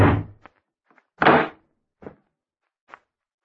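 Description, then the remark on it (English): A door is opened at 8 o'clock after the bell rings, with a heavy wooden thud, followed by a few lighter clicks and clunks from the latch and frame, without any voices. “No one's at the door. I'll take a look outside.”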